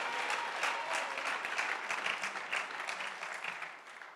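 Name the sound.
audience hand clapping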